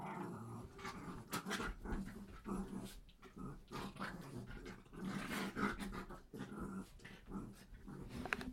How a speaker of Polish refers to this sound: No, piękny piesek. Mój kochany pieseczek. Mój pieseczek. Lubię tego pieseczka. Pieseczka. Lubię, jak on tak.